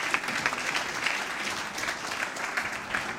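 Steady applause from an audience fills the room, a dense patter of many hands clapping at an even level throughout, with no voices standing out.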